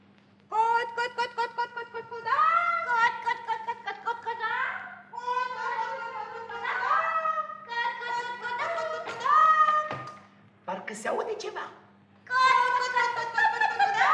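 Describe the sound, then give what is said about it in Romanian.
Children's voices imitate hens clucking in bursts of high, harmonic squawks and cackles, overlapping and repeated loudly over about fourteen seconds, with brief pauses between outbursts, clucking to lure a fox out of its den. “Parcă aud cotcodăcii de găini.”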